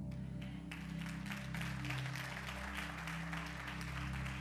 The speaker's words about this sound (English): We have a clap off. He's winning over here.